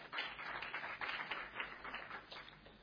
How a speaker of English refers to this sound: As a rainbow nation, we've got, and I just want you to give yourself an applause, because that is a wonderful achievement.